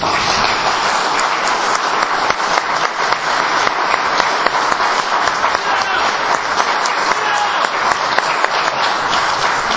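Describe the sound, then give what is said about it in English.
An audience at the First Friday Breakfast Club applauds steadily to welcome a performer, a dense, even wash of many hands clapping at once with scattered sharper claps poking through. Nobody speaks over it. “Please help me give him a warm welcome to the First Friday Breakfast Club.”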